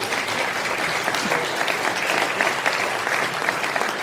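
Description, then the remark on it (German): Sustained audience applause after mention of VfL Bochum's 3-0 win over Leverkusen securing league survival, a dense steady patter of many hands clapping at an even loudness for about four seconds, with no clear voices standing out. “Ich glaube, damit kriegt man mehr Applaus, als wenn man über Dortmund spricht.”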